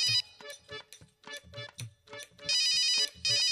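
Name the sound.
phone ringing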